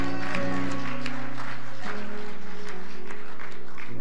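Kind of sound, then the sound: crowd, audience clapping and shouting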